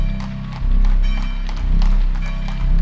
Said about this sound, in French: Et la calèche, chargée de la famille plus ou moins rassurée, s'ébranla dans les rues pavées de Saint-Pierre.